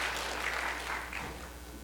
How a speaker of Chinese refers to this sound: 我哋一齐鼓掌赞美神啊！